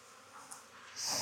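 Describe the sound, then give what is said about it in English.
A short, soft sniffle from a beekeeper working in an apiary during a beehive inspection: a quick hissy nasal intake near the end of a quiet stretch of faint background noise, with no talking. “Another frame of my, I just heard myself sniffle.”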